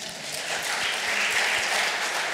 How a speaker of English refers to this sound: When the child is born, full of joy. Can you clap your hands?